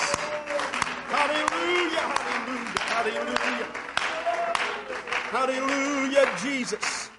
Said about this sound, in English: Why don't we clap our hands to the Lord this morning? We love you, Jesus.